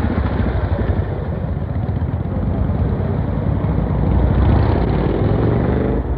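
Steady street traffic: a continuous low engine rumble with a dense roar that swells slightly toward the end, as vehicles pass. No voices can be heard.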